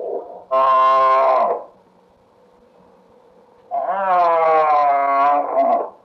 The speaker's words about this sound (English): That's a bull moose.